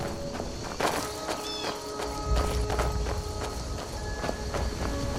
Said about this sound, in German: jetzt die Schritte von den Menschen, der mich gerade noch begleitet. Dann, und auch meine Schritte